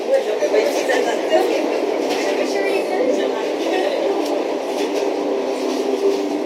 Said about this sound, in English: And now, for anyone facing into a long day, here are the soothing sounds of the 9 a.m. train service to Cork.